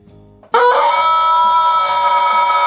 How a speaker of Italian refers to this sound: Mi fai sentire un attimo, scusa, il pollo, il gallo?